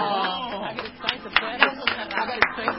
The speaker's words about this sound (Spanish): Un aplauso. Un aplauso.